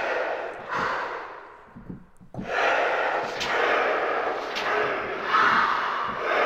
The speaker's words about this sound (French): Ouais, on dirait plutôt la respiration de Dark Vador, mais... Bon, c'est pas grave, on va pas en faire grand-chose de ça.